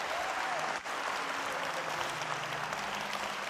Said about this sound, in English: Okay, clap your hands. Give the Lord a praise. That's good. Thank you, Jesus.